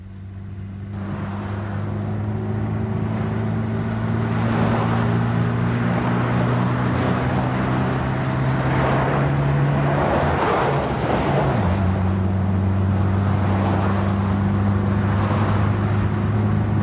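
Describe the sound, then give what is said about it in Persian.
A car engine hums steadily as Shahram's car drives along, with a brief dip and shift in pitch partway through like a gear change, then a steady drone again. “به من مربوط نیست، ولی میرسونم تو راهم هم حرف میزنیم. ماشین داری؟ ماشین شهرام دست منه.”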